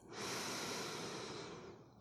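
A single long, deep inhale drawn through the nose during a guided meditation breathing exercise, steady, a soft airy rush lasting about two seconds with no talking.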